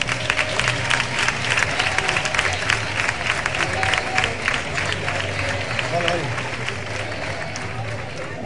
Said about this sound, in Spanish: Y vamos todos a darle un gran aplauso a nuestro presi.